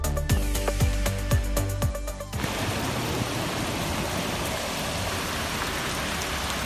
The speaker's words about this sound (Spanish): Esto que escuchas es un mar cruzando el pueblo. Así recuerdan los vecinos de Castrillo de la Vega la gran tromba de agua que ha anegado la localidad.